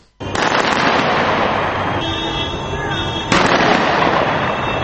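Dense, continuous crackle of celebratory gunfire in Tripoli, Libya, on a Sunday, fired by government supporters celebrating the taking of key cities such as Zawiya, Misrata and Ras Lanuf; many rapid overlapping shots form a loud sustained roar with no pauses, with a brief tonal whine partway through.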